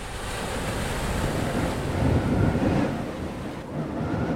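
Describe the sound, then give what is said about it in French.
Sea water off the coast of Sumatra washes and rushes steadily over shallows as the sea recedes abnormally, exposing the seabed; a broad hissing surf that swells a little midway before easing, with wind buffeting the microphone throughout and no voices. “Mais soudain, Raka remarque que la mer se retire anormalement, dévoilant les fonds marins.”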